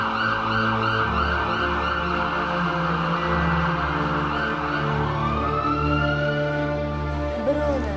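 A loud ambulance siren wails continuously as the ambulance arrives, its pitch sliding up and down in long sweeps, with no voices over it.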